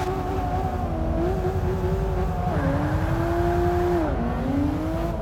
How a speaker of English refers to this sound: I'm driving the 2011 BMW 1M, by the way, which is not very different from my real car, quite frankly.